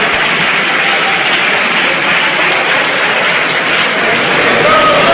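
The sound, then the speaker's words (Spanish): Sustained applause from a large chamber of legislators: dense, loud, steady clapping with no pauses, occasionally swelling slightly toward the end, and no clear speech over it. “No me refería a ninguno de ustedes, no sé por qué aplauden.”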